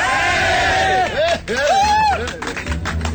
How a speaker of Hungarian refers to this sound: Szeretnék a néptől egy helyi kiáltást hallani. Egy, kettő, három.